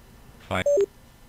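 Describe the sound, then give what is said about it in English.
A brief electronic device alarm for a meeting reminder: a harsh buzzy burst followed by two quick descending beep tones, clear, with nothing else around it. “Aha, there's our alarm.”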